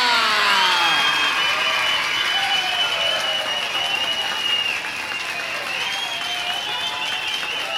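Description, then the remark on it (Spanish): A large audience, practicing all its cues at once before a show, erupts with loud applause, shrill whistles, shouts and foot stomping, a dense, sustained roar of cheering that holds steady throughout. “Lo que ahora vamos a hacer será practicar todos los recursos al mismo tiempo. El silbido, los gritos, el zapateo, el aplauso.”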